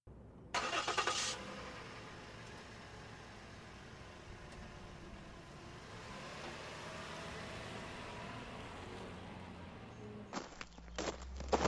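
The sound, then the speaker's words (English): A pickup truck's engine rumbles steadily as it parks, then cuts off, followed by a door and a quick run of footsteps approaching. “Well, mister, why don't you park your pickup truck and come inside and I can show you right up close and personal like.”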